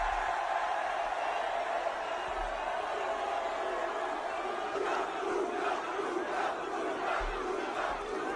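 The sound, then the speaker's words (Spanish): A crowd of more than 2,000 fans in Milan chants Luka Modric's name over and over at his presentation, in a steady, rhythmic cadence, the loud roar of many voices continuous and swelling into sharper repeated shouts toward the end. “Gritos de Luka, Luka, Luka.”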